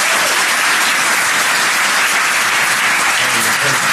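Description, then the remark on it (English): Loud, sustained applause from a crowd at DEF CON 21 for first-time speakers, a dense wash of many hands clapping steadily for several seconds, with a few faint voices mixed in toward the end. “Let's hear it for these first time speakers.”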